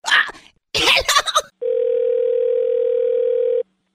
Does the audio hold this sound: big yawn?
no